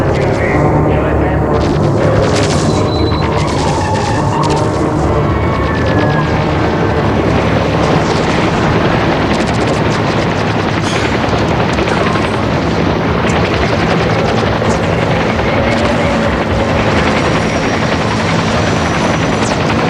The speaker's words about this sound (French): Des petits avions et des hélicoptères aident l'armée et la police.